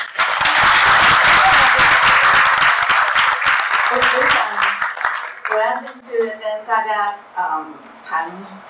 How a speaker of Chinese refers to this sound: 那讲的题目是新时代的行动思想家，我们用岁月掌声加上尖叫啊，我们欢迎我们的叶理事。